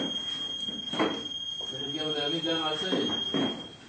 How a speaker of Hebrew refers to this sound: כי כך קשה להמשיך, זה רעש תורדני. זה גם אתה... לא, זה מצפצף שם מבחוץ, הקופסת פיקוד ליד היציאה.